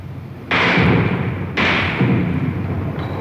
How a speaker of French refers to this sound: Il tire à la mitraille, vous entendez les balles qui claquent contre le mur.